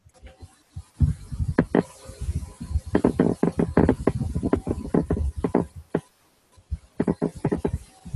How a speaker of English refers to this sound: So it's probably the typing and not the rocking chair.